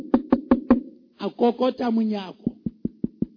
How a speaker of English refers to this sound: And he saw the name on the door, George Jeffreys. And he knocked on the door.